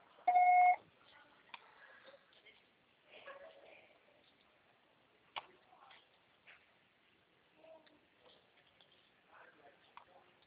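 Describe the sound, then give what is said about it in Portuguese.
A single loud, steady electronic beep of a voicemail recording sounds at the start and lasts under a second, followed by faint scattered clicks and soft, indistinct noises. “Grave seu recado agora.”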